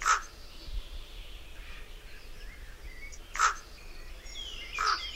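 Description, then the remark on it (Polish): A Eurasian jay mimics a common raven with three loud, harsh croaking calls, one at the start and two close together near the end, over faint birdsong and a quiet outdoor background. “Kruka.”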